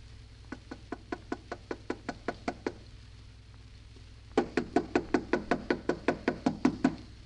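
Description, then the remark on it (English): Knuckles rap on the wooden door of a house in two bursts: a first run of about ten light, even knocks, a short pause, then a louder, quicker series of heavier knocks. “Harder, Alice. Knock harder. I can't. It hurts my knuckles.”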